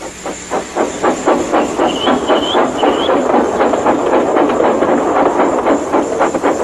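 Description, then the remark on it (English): A steam train, James, chuffs steadily as it pulls away, rhythmic bursts of steam and hiss, with a few short whistle-like squeals and rail clatter underneath. No one speaks. “The driver tied a pad of newspaper tightly round the hole in the brake pipe, and James was able to pull the train.”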